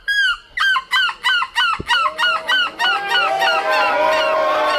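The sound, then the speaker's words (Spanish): A Belgian person imitates a seagull as a participant in the 6th European Seagull Squawking Championship in Belgium: a rhythmic run of loud, nasal squawks, about a dozen in quick succession, which then quicken and blur into a continuous overlapping cry. “Para ser más concretos, que es uno que fue uno de los participantes de la 6ª edición del Campeonato Europeo de Graznidos de Gaviota, un certamen que se ha celebrado este fin de semana en la localidad”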